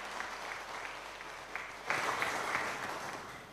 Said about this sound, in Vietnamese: Xin tất cả hãy dâng cao tràng pháo tay để chúc mừng lễ hôn.